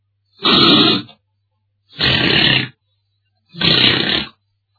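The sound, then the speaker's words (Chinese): Three loud, rasping snores, each roughly a second long, evenly spaced with silent pauses between, as a storyteller imitates deep, rumbling snoring in a steady rhythm: a character, the scholar He Wuhun, asleep slumped over a table against the east corner wall. “贺无魂呢，靠着东边的墙角，可能多贪了几杯，伏案而睡，鼾声如雷。”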